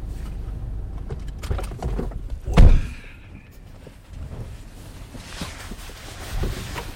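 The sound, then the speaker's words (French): A heavy mountain refuge door at altitude is shoved open against strong wind with one loud thump partway through, surrounded by a constant low roar of gusting wind that swells again near the end. “Voilà, la porte pousse derrière.”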